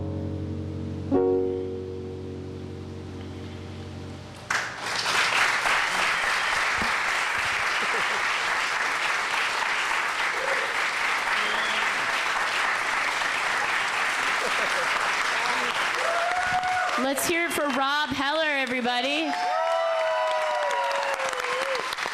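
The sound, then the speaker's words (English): A large audience breaks into sustained, loud applause after a short musical ending, the dense clapping continuing steadily with some cheering, while a voice speaks over it near the end. “You can keep clapping.”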